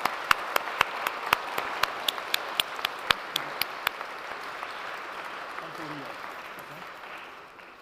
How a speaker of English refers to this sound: So a big round of applause for our students this year.